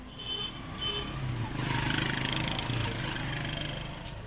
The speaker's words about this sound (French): on va quitter cet endroit parce que là c'est très très bruyant quand même, on entend beaucoup les voitures.